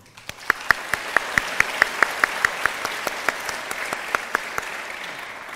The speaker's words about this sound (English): A huge round of applause for all our professors who were instrumental in making this day happen.